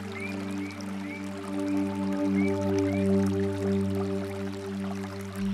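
Steady trickling stream water flows continuously beneath a sustained low droning tone, with a few faint bird-like chirps scattered throughout. No one speaks.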